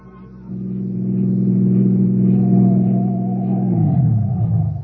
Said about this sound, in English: There's a car coming in. Huh? I can hear the motor.